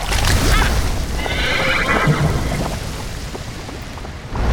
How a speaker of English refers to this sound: Were those horses made of water?